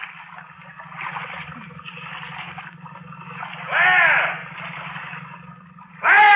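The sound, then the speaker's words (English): Water swishes and splashes as a boat is paddled, with two louder surging strokes standing out over a steady low hum and a continuous watery wash. “Now paddle.”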